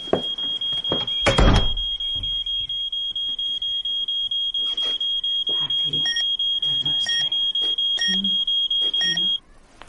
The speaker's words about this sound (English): I'm sorry, I've only got 30 seconds to turn the alarm off.